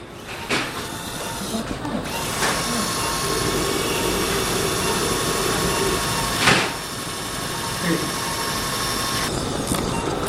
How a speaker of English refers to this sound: I have a drill. We're using her landmarks to make sure that the socket goes in where it belongs. Do you have the shorter drill?